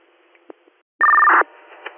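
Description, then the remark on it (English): A brief, loud burst of steady electronic dispatch alert tones for a call on Spruce Street, two pitches in quick sequence, cuts through faint radio hiss and then stops abruptly as the static returns. “You want some more tones for this Spruce Street job, or no?”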